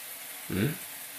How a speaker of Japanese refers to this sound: はい、シャワー温まったよ。